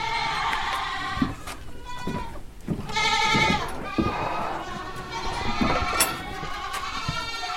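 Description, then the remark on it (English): Several young Alpine and LaMancha goats, about four to five months old, bleat repeatedly in a barn, overlapping one another, their wavering calls forming a steady, fairly loud chorus. “So all of these goats are like 4 months old, 5 months old.”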